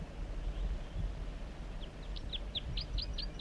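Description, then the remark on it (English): A wild bird sings a quick, evenly spaced run of about eight high, bright chirping notes in the second half, over a steady low rumbling background noise. “Wild Bird songs, joined by 4-3.”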